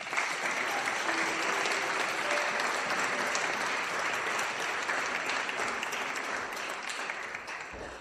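An audience applauds steadily for about eight seconds, a dense, even wash of many hands clapping that stays loud throughout and thins slightly at the end, with no talking over it.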